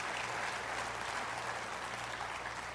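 A church audience applauds the power of God's word, a dense wash of many hands clapping at an even, sustained level with no voices standing out, lasting the whole stretch.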